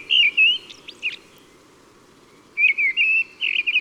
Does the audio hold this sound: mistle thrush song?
yes